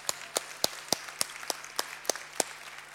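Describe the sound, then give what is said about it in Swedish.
Steady, evenly spaced hand claps, about ten sharp slaps at a brisk regular rhythm, moderately soft, with no talking and a faint low hum underneath. “Applåd för er.”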